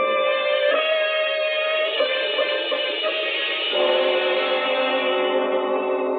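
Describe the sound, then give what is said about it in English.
A steady electric hum coming from downstairs in a house drones continuously with bright buzzing overtones and an echoing, processed quality, shifting pitch slightly partway through, with no voices. “between his wife's terror and the electric humming from below, Mr. Morris felt a great fear”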